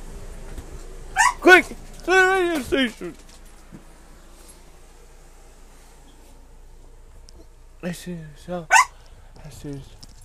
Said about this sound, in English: Alright guys, come here guys, excuse the barking in the back.